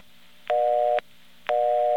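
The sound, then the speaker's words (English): A mechanical telephone exchange busy signal from a non-electronic phone company office: two half-second bursts of a steady mid-pitched tone with silent gaps between, each burst opening and closing with a sharp click, over a faint background hum. “That is a mechanical busy signal.”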